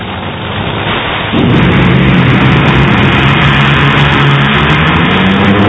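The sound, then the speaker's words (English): A loud, continuous roar that suddenly swells into a deeper, more intense blast: Bruce Litton's drag racing car on a run at full throttle, steady throughout with no voices. “It looked like a great run, and then something blew apart on the back of the car.”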